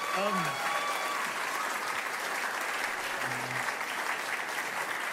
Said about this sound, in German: Richtig gut. Komm, lass mal einen Applaus geben. Hey.